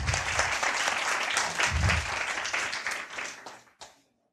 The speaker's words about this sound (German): Mal ein Applaus für den Mann von der Technik.